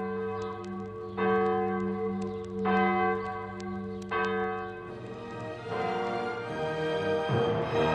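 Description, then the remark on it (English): Church bells in Siciliano toll as passing bells for the death of Pope Pius X, with slow, evenly spaced strikes about every second and a half, each leaving a long ringing hum, then the strokes crowd together into a fuller, overlapping peal. Loud, no voices. “We heard the bells ring, but instead of ringing for the feast day, we heard the passing bells because Pius X died that day.”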